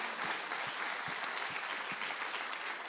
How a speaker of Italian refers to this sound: Grazie, ancora un applauso al Signore. Alleluia.